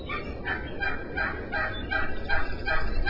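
Wild turkeys that have come into town in Wenham, Massachusetts, gobble in a rapid, rattling series of bursts, several calls overlapping, with steady outdoor background noise and no talking.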